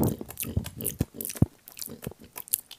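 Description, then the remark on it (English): A voice imitates loud, wet chewing: a quick run of smacking, crunchy mouth noises in an uneven rhythm, about a dozen bursts in under three seconds, with no words spoken. “I don't mind it when you're in a place where everyone's eating, loud chewing all over.”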